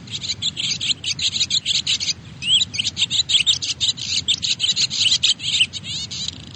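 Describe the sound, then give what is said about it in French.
Busy, continuous twittering of swallows, rapid chirps and warbles in the high range with little pause, moderately loud, over a faint low rumble of background noise. “Je te fais réécouter leur chant ?”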